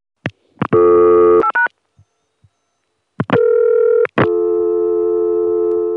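A couple of clicks and short bursts of dialing tones as two speed-dial digits are dialed, then a loud, steady telephone dial tone from a regular Atlanta phone number, taped in 1980 or 1981, that hums on without a break until the end. No one speaks.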